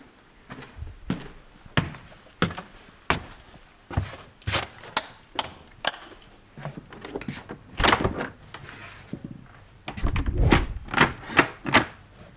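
A door is handled and opened, with a long run of sharp clicks, knocks and rattling clunks that build into heavier thuds near the end. No one speaks.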